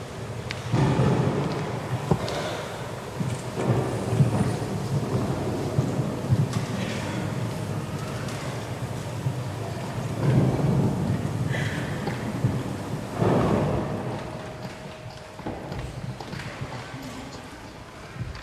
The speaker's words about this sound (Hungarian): Úgy esik az eső, mintha dézsából öntenék. Pont, mint az özönvíznél.